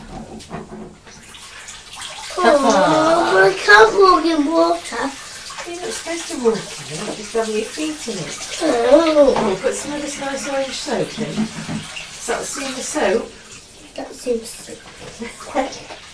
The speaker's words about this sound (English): Let me get a little bucket of water.